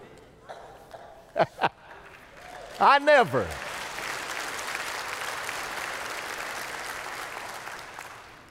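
After a few short sharp sounds and a brief pitched vocal outburst, a crowd breaks into steady, sustained applause that continues at an even level for several seconds.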